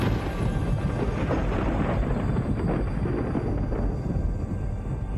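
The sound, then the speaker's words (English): A steady, loud roar of rumbling thunder and a rushing whirlwind, as when God spoke to Job, fills the whole stretch, dense and continuous with deep low-end rumble and no voices. “There was thunder and a whirlwind, and God talked to Job personally.”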